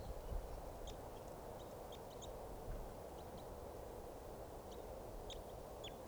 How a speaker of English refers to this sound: Bird chittering there in flight.